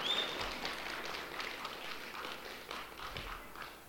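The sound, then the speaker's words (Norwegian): A crowd claps steadily, a dense crackle of many overlapping hand claps sustained at an even level for the whole stretch, with no voices rising above it. “Ja, det ingen grunn til å klappe for at vi har hatt en tilbakegang, men det heller ingen grunn til, for KUL til å klappe, fordi at...”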